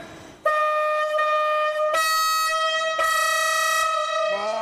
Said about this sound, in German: Ja, das Makrofon ist nichts anderes als die Hupe, wie beim Auto. Hier vorne, wenn du reinschaust, kannst du es sehen. Achso, das ist einfach so eine Tröte hier? Ja, genau. Ohren zu, es wird laut. Vorsicht, Hupe!